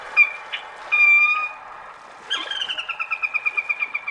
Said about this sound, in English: So to try to trick rails, audio playback stations were set up in and around a restored wetland area in Michigan. Loudspeakers played recorded rail calls on a loop during their migration.